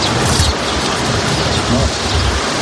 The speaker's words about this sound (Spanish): Así es como suena el río Dnieper en Ucrania. Baja muy crecido después de que se destruyera la gran presa de Novakayovka. En el momento en el que se ha registrado este sonido, en el río había una casa flotando que iba aguas abajo.